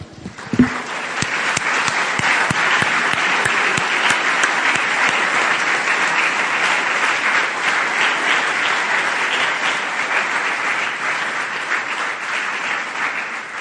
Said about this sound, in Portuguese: É o Pai, é o Filho e é o Espírito Santo. Ah, podemos aplaudir a Trindade de novo?